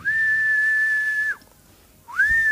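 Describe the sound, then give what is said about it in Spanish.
An uncle whistles a long, steady high note that drops off sharply, pauses briefly, then starts a second rising whistle, from a hallway at the back on Avenida Belgrano; clear, with no talking. “Tenía un silbido del pasillo del fondo de la avenida Belgrano, que era”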